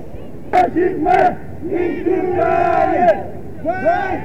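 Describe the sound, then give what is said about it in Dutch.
A crowd of many voices shouting cries together at a demonstration, a bloc heading to the Dam, with rising and falling chant-like yells over a steady roar of people, loud and continuous throughout. “Want ik hoor wat kreten die ik weliswaar niet kan verstaan.”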